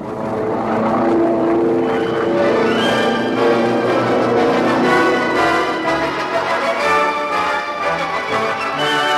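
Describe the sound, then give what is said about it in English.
Loud, steady droning of aircraft engines fills the whole stretch, a layered humming roar that wavers slightly in pitch as planes land on and circle an island airstrip, with no voices. “That's a lank on the strip. Two more circling.”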